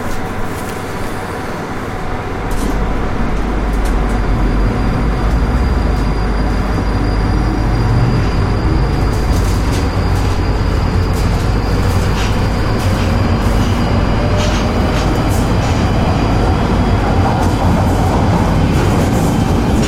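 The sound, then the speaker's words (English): A London Underground Northern line train terminating at Kennington rumbles steadily through a tunnel, a loud, continuous low roar with rattling wheels and a faint rising whine, heard from inside the carriage. “The North Line”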